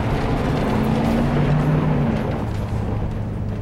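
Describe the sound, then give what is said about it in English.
A loud truck engine roars steadily, its low droning pitch rising and sliding as the vehicle pulls away and drives off, with no voices over it. “Get in the truck!”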